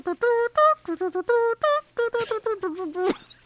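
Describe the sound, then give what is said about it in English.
A voice mimics a melodic car horn like the horns of a neighborhood, standing in for Edward honking outside Bella's bedroom window: a quick run of about a dozen short, bright sung tones in a jaunty tune, fairly loud, ending on a rougher, wavering note. “That was just the horns that we heard in our neighborhood growing up.”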